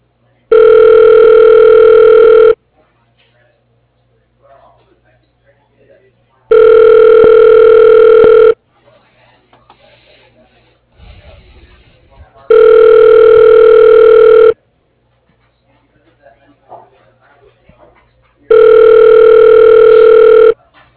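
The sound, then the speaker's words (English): A phone line rings while Google Voice connects a call: four loud, steady, buzzy ringback tones, each about two seconds long, evenly spaced with quiet gaps holding only faint line noise. “Please state your name after the tone, and Google Voice will try to connect you.”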